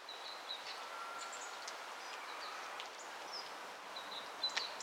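A great tit calls and sings somewhere nearby in sunny weather, thin high notes repeating every second or so over a steady rustling background hiss, with no voices present.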